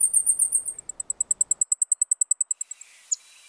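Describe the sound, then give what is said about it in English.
A male blackpoll warbler sings its squeaky-wheel song, a rapid, even string of about twenty very high, thin, squeaky notes that swell slightly and then fade, followed by one faint high chip. “In spring, listen for the ultra-high-pitched squeaky-wheel song of male blackpolls from oak tops anywhere.”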